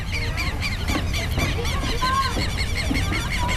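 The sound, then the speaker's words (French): A dense chorus of wild birds honking and calling, goose-like cries overlapping continuously, in a park with grass and groves in Curitiba, over a steady low rumble of background noise. “D'ailleurs, on peut entendre les oiseaux sauvages.”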